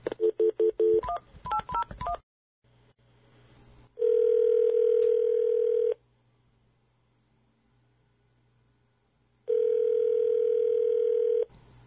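A quick burst of touch-tone dialing beeps, then two long, steady phone-line tones separated by a pause as a caller is added to the line, ringing out clearly over a low electrical hum with no one speaking.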